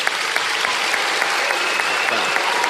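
Steady, dense applause from an audience, a continuous crackle of many hands clapping at an even, fairly loud level with no voices rising above it.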